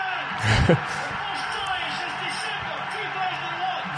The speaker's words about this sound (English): And Lennon scores, did you say? Yeah, here it is. You can hear the crowd getting excited.